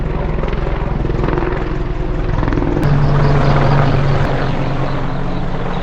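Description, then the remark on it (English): An Apache helicopter passes overhead with a loud, steady rotor thrum and engine drone that swells partway through, low pulsing tones over a broad roar, with no voices. “That's an Apache. That's not a Blackhawk.”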